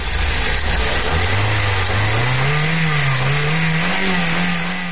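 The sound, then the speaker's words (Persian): A Land Cruiser engine revs loudly, its pitch climbing steadily as it accelerates over a continuous rumbling drone, with no voices present. “کروزین جان، خودت زیادتر در کشورهای دیگه خوش هستی یا در افغانستان؟”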